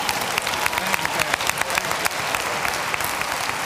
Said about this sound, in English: Give the Lord a hand clap, would you?